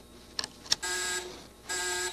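Two quick clicks, then an electric buzzer, set off by pressing buttons, sounds twice in short, steady bursts with a brief pause between, fairly loud, with no talking.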